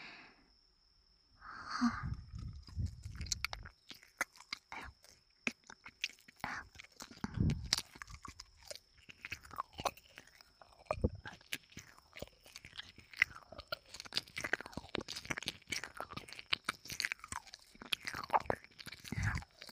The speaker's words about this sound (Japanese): なので、もう少し強めに舐めてみますね。